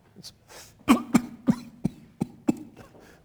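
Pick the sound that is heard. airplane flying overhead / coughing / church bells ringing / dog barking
coughing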